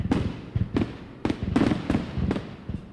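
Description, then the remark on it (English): Rapid fireworks explosions crack and boom one after another, about seven or eight sharp bursts in three seconds, loud with rumbling tails, and no voices. “people who shoot fireworks get to enjoy sort of the same thing that rock stars and athletes get to enjoy, which is the cheers and adulation at the end of the night of 1,000, 10,000, how many people cheering for you.”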